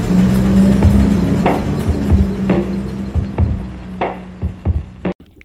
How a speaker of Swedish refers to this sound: Och så så här, sätter hon på motorn.